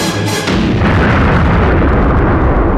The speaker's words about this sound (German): Todesstern verwandelt sich in eine flammende Sonne, explodiert in einem gigantischen Feuerball.